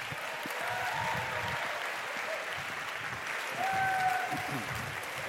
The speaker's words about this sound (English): Please welcome, with a big round of applause, one final time, Will McCaskill.